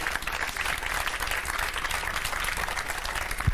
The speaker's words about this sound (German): Ich würde sagen, erstmal einen großen Applaus.